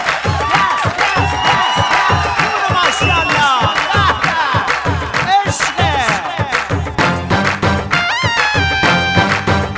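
A loud crowd cheers continuously, with rapid clapping, shrill whistles and high-pitched screams overlapping throughout, building into a sustained, excited roar with no clear speech.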